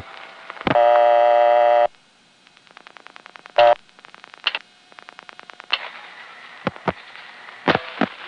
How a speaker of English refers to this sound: This was recorded from the Woodside Long Island Railroad Station. I was there with Dave one day. I'm trying to dial 958 without a coin in. That's the number readback. And you have to put in a coin, so I just got the recording.